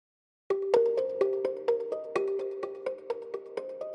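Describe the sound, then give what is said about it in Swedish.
A phone ringtone plays a quick melodic run of bright, plucked-sounding notes in a steady rhythm, fairly clear, with no one talking. “En dag ringer telefonen.”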